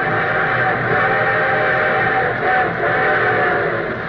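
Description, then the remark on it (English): A train whistle blows long and loud over a steady rumble of rolling wheels as a train approaches, holding a constant level for about four seconds with no voices, opening The Railroad Hour radio program. “And here comes our summer show train.”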